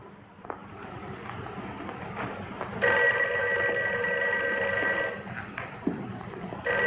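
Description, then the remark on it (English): A private telephone in an office rings loudly for a couple of seconds over a busy background of room noise and scattered bumps, then stops as it is answered and the ambient clatter continues. “He goes through the office again to the private phone for Virginia and answers.”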